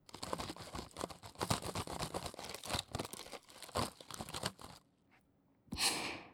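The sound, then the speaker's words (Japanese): Crisp, crackly chewing of sparkly, jewel-like kohakuto crystal candy, a dense run of rapid crunches for several seconds, then a brief quiet pause before one last loud crunchy burst. “咀嚼音って言うんですか？琥珀糖を食べる音をお耳で聞くの流行りなんです。”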